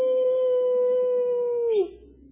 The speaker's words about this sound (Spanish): Si las ovejas oyen esos aullidos de los lobos, pero ellas saben y escuchan el golpeteo de la vara del pastor que les infunde, ¿qué cosa? Aliento.